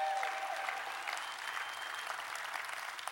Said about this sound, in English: Let's everybody give him a round of applause.